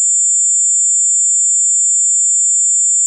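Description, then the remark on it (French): A steady, piercing high-pitched ringing tone, like simulated tinnitus, holds unchanged for about three seconds with no other sound and no voices. “T'as déjà eu les oreilles qui sonnent après un bruit trop fort? Là, c'est pareil, mais tout le temps.”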